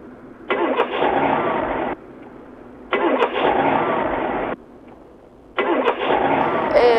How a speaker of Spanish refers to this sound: Vaya, parece que hai algún problema co auto en cuestión. Se ve que non arrinca.